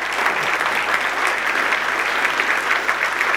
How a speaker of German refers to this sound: Und eigentlich wollte ich Sie bitten, mal für ihn zu klatschen, weil er hat uns hier zusammengebracht und ich finde, das ist eine ganz große Leistung.